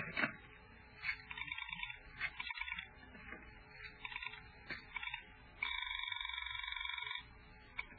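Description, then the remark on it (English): A telephone rings in several short trilling bursts, followed by one longer, steady ring near the end. The ringing is fairly loud, with no voices. “I knew I'd need all the police help I could get on this case, so I went to the phone.”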